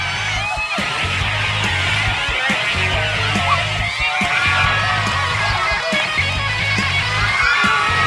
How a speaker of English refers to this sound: A band's on stage. The guitar player has Chipmunk Alvin tearing it up on his little guitar on his shoulder. The crowd's going wild.